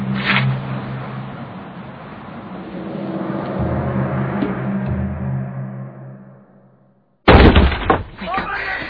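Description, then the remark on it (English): A low rumble slowly fades to near silence, then sudden loud, sharp knocking on a door breaks in, a quick cluster of hard raps. “He's here. Open the door!”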